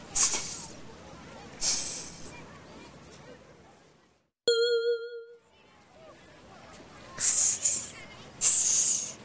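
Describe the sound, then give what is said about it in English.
A small pet snake named Sam hisses in several short, sharp bursts, two near the start and two near the end, with a brief tonal honk-like note sounding in between over a low background murmur. “I've got a snake. His name is Sam.”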